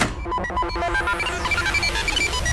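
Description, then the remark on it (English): An unanswered telephone rings repeatedly in quick, pulsing bursts of bright electronic tone, fairly loud, over a cluttered, noisy background with a sweeping whoosh; nobody speaks. “someone doesn't like picking up the phone.”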